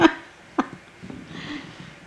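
Two short, sharp barks from beagles outside, spaced about half a second apart, followed by quiet background rustle.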